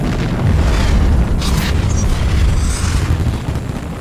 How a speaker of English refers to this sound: There's this huge explosion.